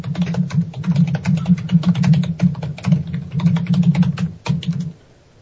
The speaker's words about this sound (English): He's giving it to his keyboard.